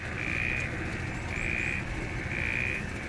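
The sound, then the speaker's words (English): A dense, loud chorus of frogs croaking in floodwaters in northern Mozambique, with three shrill trilling calls repeating at a steady rhythm over a continuous churning wash of background calls; no one speaks. “As floodwaters run through northern Mozambique, emergency workers in boats rescue desperate residents, while frogs make the most of the conditions.”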